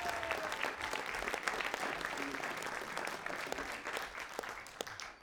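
Steady audience applause at the historic Blairstown Theater in Blairstown, a dense wash of many hands clapping at an even volume throughout, with no voices standing out above it.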